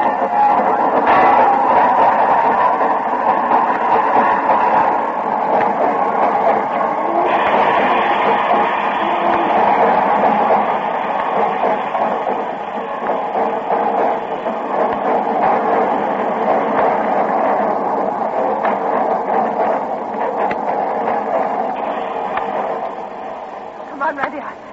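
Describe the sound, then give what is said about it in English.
A train pulls into a station, a loud, continuous rumble with metallic clatter that eases slightly near the end, with indistinct voices mixed underneath. “Are you expecting him on this train?”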